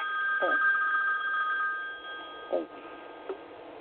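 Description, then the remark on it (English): A cell phone rings with an old-fashioned bell ringtone, a steady, rapid metallic trill that fades after a couple of seconds, with brief bits of voice over it. “And you still have the old-fashioned phone from your, no, the days. You know what? Of, it's my cell phone.”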